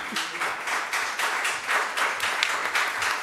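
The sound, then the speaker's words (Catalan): Steady applause from a group at a Sitges town council plenary session during the swearing-in of a new councillor, a dense crackle of many hands clapping at an even, moderate loudness for the whole stretch, with no voices standing out. “No puc aplaudir.”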